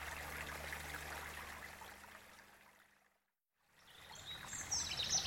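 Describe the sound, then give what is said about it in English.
Steady trickling, running water from melted ice fills the scene, fades into a brief silence, then returns with faint birds chirping high above the flow. “But where's the ice monster? Look! It's just water now.”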